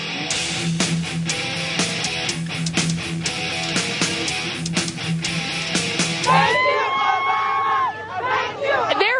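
A large, enthusiastic crowd of Obama supporters at the inauguration in Washington, D.C. cheers and roars continuously, dense and loud throughout, with rising shouts and whoops breaking out over the din toward the end.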